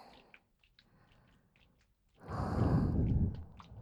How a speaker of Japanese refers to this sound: どうしました？ただ耳に吐息が吹きかかるくらい近づいただけですよ。